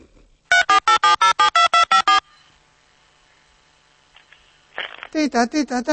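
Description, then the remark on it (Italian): A mobile phone tone as a woman calls her husband plays a quick run of about nine bright, evenly spaced electronic beeps, stops briefly with only a faint hum, then starts again with the same rapid pulsing pattern. “è già lì che sta telefonando al marito. Vuoi vedere? Col telefonino.”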